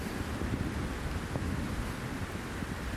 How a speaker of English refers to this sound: But it doesn't matter because it's tepid water for me. It's cooling, refreshing, revitalizing, regenerating, glorious rain. And it's wonderful.